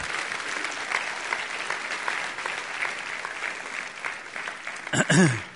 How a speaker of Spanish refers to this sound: Si Dios le habló, den un aplauso a Él, que Él se lo merece.